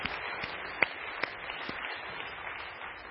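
An audience applauding: a steady, dense wash of many hands clapping at a fairly soft level, with a few sharper individual claps popping out, and no voices.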